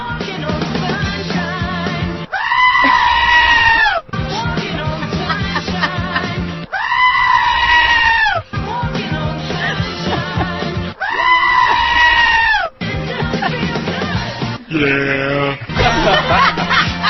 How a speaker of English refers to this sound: We thought the screaming goats had jumped the shark, but not until someone sent this.